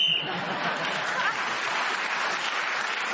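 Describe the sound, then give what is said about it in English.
A short, high whistle blast at the very start ends a round of a panel game and is quickly swallowed by loud, steady applause from an audience that continues to the end. “He got an extra point for speaking as a whistle.”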